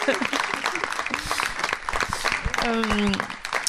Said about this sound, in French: Merci à tous les quatre, on peut les applaudir très chaleureusement, très très fort.